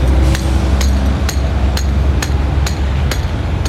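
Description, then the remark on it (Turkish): A bus stop shelter is struck about eight times in a steady rhythm to hear its echo, each hit a sharp, bright knock over a constant low background rumble. “Evet, burada vuruyorum bastığını ki durağın yankısını vuralım.”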